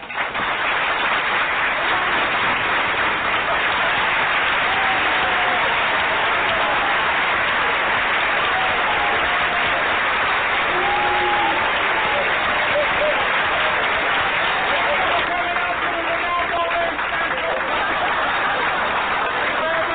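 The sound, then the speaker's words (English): Sustained applause from an audience for the cast after a show, a dense, steady crackle of many hands clapping at an even level for the whole stretch, with a few faint voices and tones rising beneath it. “I think we should say goodbye and give the cast a great round of applause, don't you?”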